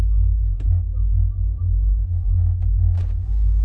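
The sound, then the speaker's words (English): A truck engine rumbles steadily and loudly from inside, a deep constant drone with a few brief clunks and rattles over it as it drives along. “Hop in the plunder truck. We're going for a fucking ride.”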